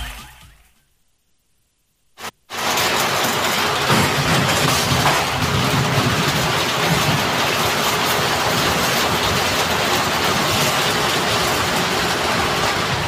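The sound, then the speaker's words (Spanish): Heavy rain in a video sent in by a listener comes in abruptly after about two seconds of near silence, then pours as a loud, steady, dense hiss that continues unbroken to the end, with no voices. “Oh, cómo se escucha ahí la lluvia.”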